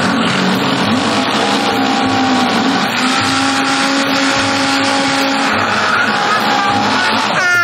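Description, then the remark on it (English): A blender blends a mixture with water and lemon until smooth, running steadily for several seconds, a loud, continuous motorized whir with a grinding, churning texture and a faint high whine that shifts slightly in pitch. No one speaks. “Okay, so I just blended it until it was smooth.”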